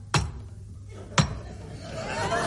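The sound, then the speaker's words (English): Two sharp knocks on an office door, about a second apart, each a single crisp rap standing alone over a faint low background hum. “It's someone knocking at the office door.”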